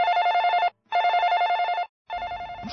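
A telephone rings in repeated electronic bursts, three trills separated by short pauses, loud, with some faint background noise creeping in near the end.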